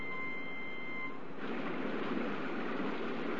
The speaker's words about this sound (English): The monsoon. It's been raining in India like that for the past 30 hours. The Ganges River is flooded and Benares is under 9 feet of water.